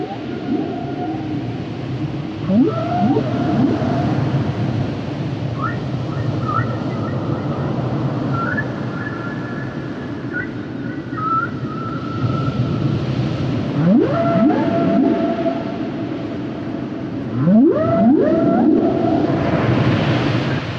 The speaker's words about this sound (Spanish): no sabes qué cosa tan maravillosa es escuchar a la ballena jorobada cantando y buceando. Justamente tenemos el sonido de canto de ballenas, vamos a escucharlo para que las personas se den una idea de este espectáculo auditivo maravilloso.